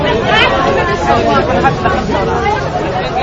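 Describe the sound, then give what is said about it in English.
A loud, dense crowd at a bakery in Cairo, many people pushing and shoving to get closer to the front, shouting and talking at once in a constant, agitated hubbub with no single voice standing out. “she stares at the raucous crowd pushing and shoving to get closer to the front.”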